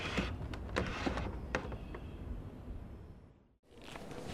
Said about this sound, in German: Aber stattdessen kroch er näher zur Tür und versuchte, diese so leise wie möglich ein Stück zu öffnen, um sehen zu können, was dort vor sich ging.